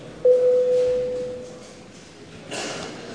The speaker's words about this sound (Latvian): Paldies, lūdzu zvanu.